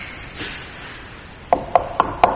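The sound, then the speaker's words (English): Four evenly spaced knocks on a wooden door, each a sharp, dull thud with a quick decay, following a moment of faint rustling. “He stands at the door and he's knocking.”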